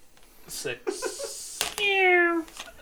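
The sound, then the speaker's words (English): A person imitates a cat meowing while making an attack in a dice game, giving one drawn-out, nasal meow after a few brief vocal sounds, with a sharp click just before it. “Can you meow when you make an attack?”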